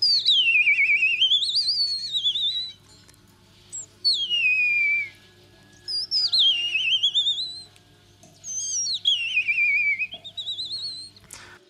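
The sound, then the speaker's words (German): An ornithologist and bird-call imitator whistles bird-like calls: four separate swooping, warbling phrases with rising and falling pitch, clear, separated by short pauses, with no talking. “…, Ornithologe und Vogelstimmenimitator”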